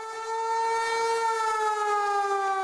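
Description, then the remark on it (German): A civil defense warning siren wails in a steady, sustained tone with a slight downward drift in pitch, loud and continuous throughout, with no voices present. “Es gibt natürlich noch ein paar Sirenen hier oder da, aber eben keineswegs so, dass wir uns flächendeckend darauf verlassen”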